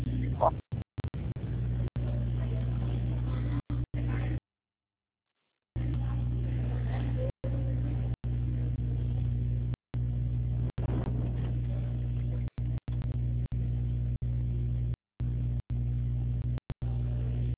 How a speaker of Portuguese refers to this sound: Não, não, é que tá passando um carro aqui no banco.